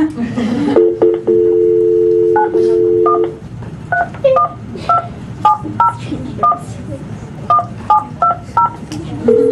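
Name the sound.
telephone keypad dialing tones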